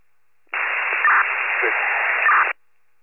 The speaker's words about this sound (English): The radio static. I'm trying to work on it.